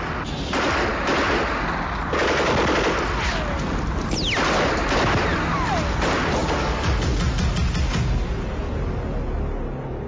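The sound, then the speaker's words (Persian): Dense, continuous gunfire crackles for the whole stretch, rapid overlapping shots like a heavy firefight, loud, with a brief whistling streak cutting through midway and no voices; shooting ordered in the desert at night. “بعد صدای شلیک گلوله در صحرا پیچید.”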